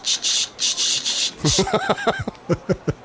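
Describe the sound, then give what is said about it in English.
A voice imitates a rattlesnake with a rapid series of hissy, breathy bursts, then breaks into a run of high, squeaky voiced chirps. “And then they do the sound of a rattlesnake.”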